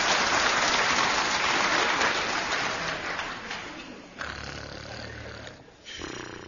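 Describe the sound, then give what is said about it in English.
Loud snoring: a long, raspy breath that slowly fades, then a lower, buzzing snore with a brief pause before another rasp begins. No talking. “Here, who is that snoring in that frog?”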